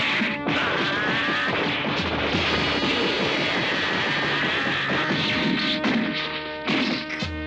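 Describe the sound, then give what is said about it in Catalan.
A rapid flurry of punches and kicks from Ten landing on Goku, who does not react, with sharp whacks and thuds, dense and loud, over a sustained whooshing roar, with brief pauses between bursts of impacts. “En Ten clava cops de puny i de peu en Goku, que no reacciona.”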